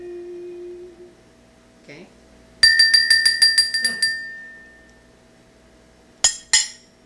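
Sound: bells ringing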